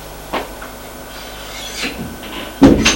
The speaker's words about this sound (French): L'homme va prendre les escaliers. Il va au premier étage. Il ouvre une porte.